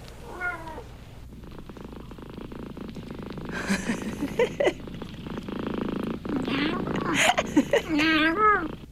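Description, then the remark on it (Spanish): Cats meowing in the morning, with a drawn-out wavering meow at the start and another near the end, over a steady low purr and some muffled voice-like sounds in between. “¿Qué les pasó a los gatos esta mañana?”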